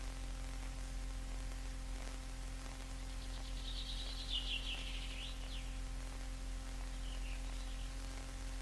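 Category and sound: bird, birds singing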